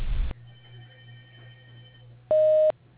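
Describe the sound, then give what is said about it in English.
A short burst of tone opens, then a low steady hum, and a single clear, steady voicemail beep sounds for about half a second near the end, with no speech. “Leave a message and your number after the beep, and I will return the call promptly.”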